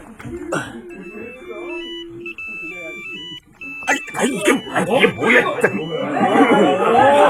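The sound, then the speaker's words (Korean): A mobile phone rings at a funeral with a bright, stepping electronic melody for a few seconds, then several voices break into overlapping chatter as the noise builds. “너 핸드폰 진동으로 안 해놨냐?”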